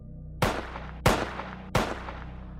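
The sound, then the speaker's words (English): Three sharp gunshots ring out about two-thirds of a second apart, each a loud, abrupt crack followed by a brief echoing decay over a low, steady background hum. “That's when we heard the gunshot.”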